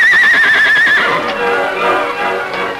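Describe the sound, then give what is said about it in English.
The Lone Ranger's horse Silver gives a loud whinny as it breaks down a door with its hoofs, its high, quavering cry trembling for about a second before breaking into a rougher, breathy neigh that tapers off. No one speaks. “The great horse Silver drew back as the door crashed down before the onslaught of his powerful hoofs.”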